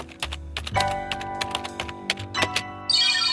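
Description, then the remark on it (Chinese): Rapid, close-up typing on a laptop keyboard, a dense run of crisp key clicks in uneven bursts over a faint steady hum, with no voices. “哎，等等，我的电脑。里面有我文章做的全部笔记。”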